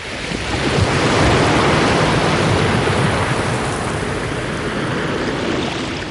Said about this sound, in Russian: Как только они сделали это, вода вновь хлынула с огромной силой и все скрыла под собой.